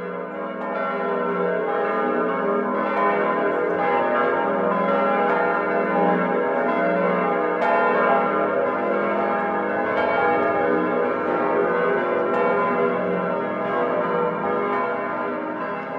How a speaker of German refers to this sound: Das Geläute der beiden Münchner Frauentürme umfasst heute wieder, wie noch 1913, 1914, 10 Glocken. Wir haben hier einen sehr reichen Bestand von 7 historischen Glocken, davon sind 5 immerhin aus der Zeit der Spätgotik erhalten